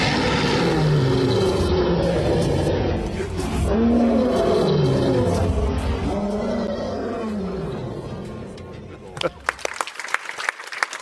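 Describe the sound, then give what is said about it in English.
A lion roars loudly in long, rumbling bursts over a dense, swelling wash of sound, which gives way near the end to a few sharp, separate percussive hits; Simba's final roar atop Pride Rock at the end of the animated film The Lion King. “It is the moment at the end when Simba climbs Pride Rock to assume his place as king for the final roar.”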